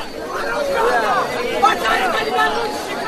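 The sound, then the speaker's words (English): Dense, overlapping chatter from many voices fills the whole stretch, a steady murmur of a packed crowd waiting in a long line, with no single speaker standing out, loudness holding even throughout. “You see the crowd. You see how long the line is.”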